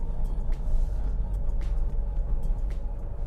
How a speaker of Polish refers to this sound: trzeba uważać, żeby też samochodu nie uszkodzić. Ale chyba wjedziemy zaraz spokojnie pod górę.